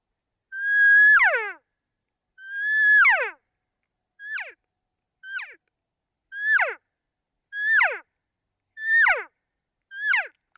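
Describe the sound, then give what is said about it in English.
A cow call blown on a latex mouth call, made with high tongue pressure and a push of air, then dropping the air and tongue: eight clear high-pitched mews that slide downward, the first two long and drawn out, the rest shorter and quicker, with no talking. “So you can hear it's a really simple two-part sound to make a cow sound, just a simple cow call.”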